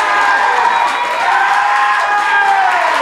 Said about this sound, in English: And it would appear the participants are breaking the no applause rule either. There's no controlling you people on the boards or in real life. It's just awful.